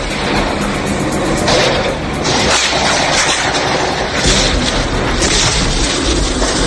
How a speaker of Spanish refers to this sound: Pone los pelos de punta, la verdad, escuchar estos ataques en Mariupol, donde no se puede sacar de allí a 20.000 personas mientras llueven las bombas.